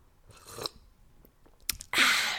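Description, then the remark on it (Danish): Someone sips coffee: a few soft, noisy mouth sounds and a quick click, then a longer airy slurp at the end. No one speaks. “Jeg tager lige min kaffe, fordi det er sådan lidt hyggeligt her.”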